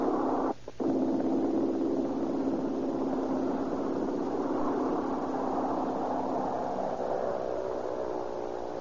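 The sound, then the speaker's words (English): A small red propeller airplane's engine roars steadily as it takes off and climbs to 1,000 feet over Southern California, a dense buzzing drone whose tone climbs slightly, briefly cutting out near the start. “Little mechanical red bird skims across the green of the air drone, sees the top of the grass, and falls toward the heavens.”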